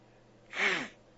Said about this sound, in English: Excuse me, I'm having trouble breathing here.